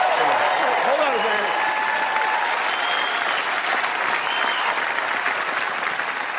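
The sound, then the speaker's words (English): A large audience applauds steadily, a dense wash of clapping that stays loud and even throughout, with a brief voice or cheer faintly rising in the first second. “I know you're clapping, but you're the ones who didn't vote for her, by the way.”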